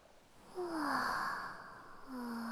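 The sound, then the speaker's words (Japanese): Ocean waves wash gently onto the shore at night under a starry sky with a pleasant breeze, a soft hiss that swells and then settles, steady, with a faint breathy sigh over the top and no talking. “波の音も落ち着く。”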